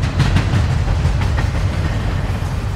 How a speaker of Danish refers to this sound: Og hør, nu kommer toget. Er du klar til afgang?